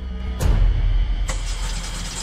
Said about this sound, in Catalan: Algú engega un cotxe.